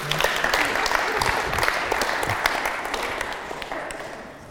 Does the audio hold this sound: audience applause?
yes